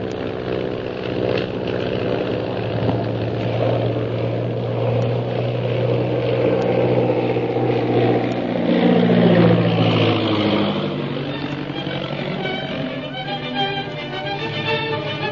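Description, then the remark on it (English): A propeller airplane engine drones steadily and loudly, its pitch shifting upward and sweeping midway as the plane climbs above another plane, then settling into a higher, sustained roar with no voices. “I'm going to climb above the Purple Triangle plane without the pilot seeing us.”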